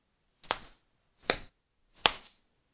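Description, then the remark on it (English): Three sharp lashes from vines used as whips land against skin one after another at an even, unhurried pace. Each is a crisp, loud smack with a quick sting that fades fast, and no voices are heard. “You're much cuter with my whip marks streaked across your skin.”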